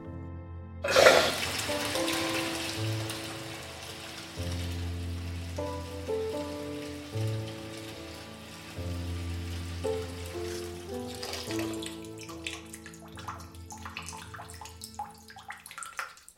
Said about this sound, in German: Also ließ ich mir ein Bad ein.